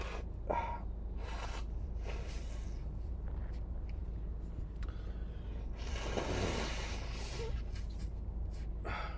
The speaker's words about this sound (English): We could make an audio, like a soundscape of me blowing my nose and sniffling. Hold on a second. Endless loop.